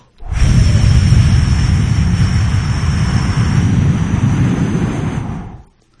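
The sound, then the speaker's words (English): Several people do a breathing exercise together: after inhaling for a count of four and holding for seven, they blow out a long, forceful exhale meant to last a count of eight. It is a loud, steady, breathy whoosh lasting about five seconds before trailing off. No one speaks. “And you want to whoosh to a count of eight.”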